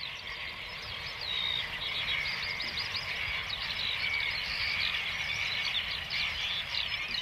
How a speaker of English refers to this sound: Thousands of birds just swirling around. Something spooked them. It's almost like smoke, isn't it? Yes, it is. The way that they swirl around in the sky.